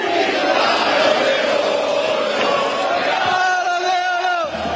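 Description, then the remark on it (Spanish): A large crowd at the Puerta del Sol, Madrid, chants "balón de oro" (Ballon d'Or) at Vinicius on the balcony, a dense, loud roar of many voices rising and falling in a steady rhythm, with a few higher cheers cutting through near the end. “Se arrancó a hablar y la gente le gritaba, ¡balón de oro, balón de oro!”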